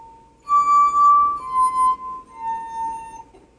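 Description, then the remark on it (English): Glasses holding different amounts of water ring out one after another in three clear, sustained tones, stepping down from high to medium to low pitch, each note lingering and fading into the next, unaccompanied. “And by vibrating at different rates, they produce different tones. So this one gives us a high tone, a medium tone, and a low tone.”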